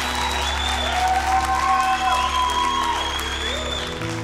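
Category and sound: crowd, audience clapping hands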